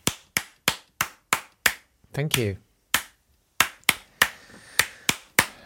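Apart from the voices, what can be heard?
hands clapping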